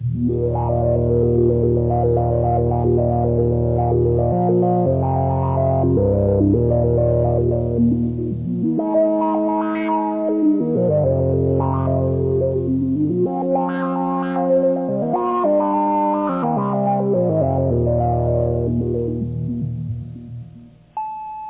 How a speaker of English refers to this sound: Try increasing the sample and hold control signal going into the filter by raising the yellow slider labeled sample and hold.